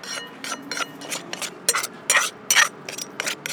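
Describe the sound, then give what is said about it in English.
Papaya salad ingredients (grated papaya, fish sauce, tamarind, lime, noodles and cabbage) being mashed together: repeated wet, scraping thumps of a pestle against a mortar in an uneven rhythm, with bright clattering strikes, loud, with no talking. “Mash together, and I almost done right now.”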